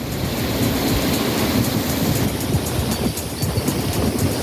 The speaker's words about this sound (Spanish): Así suena, ¿eh?, ese caudal a esta altura en la colonia del Manzanares, una crecida que muchos madrileños y vecinos del barrio